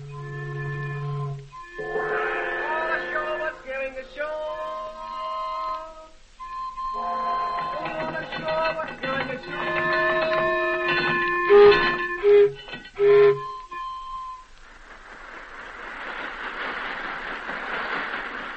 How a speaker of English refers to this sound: Stretches of open country, veldt, bush, through Kaffir village and city of the Boers, moves the convoy train until it pulls into Cape Town, where a liner is waiting for its precious cargo.